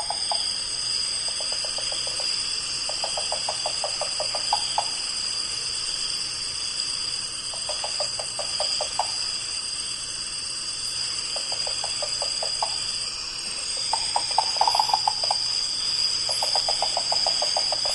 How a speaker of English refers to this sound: An incredible sound. It's almost sort of a knocking percussive sound over that jungle background. It's very, very different from any of the other owls in that group. And it doesn't even sound like an owl.